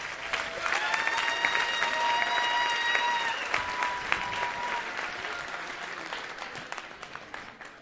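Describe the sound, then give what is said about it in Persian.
A crowd claps for themselves steadily for several seconds, dense and fairly loud, with a sustained high whistle-like tone over the first few seconds before the applause thins and tapers off. “اونایی که ساکتن خودشونو تشویق کن.”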